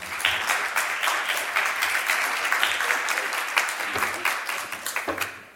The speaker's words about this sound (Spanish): Pues un aplauso para ellos dos, por favor.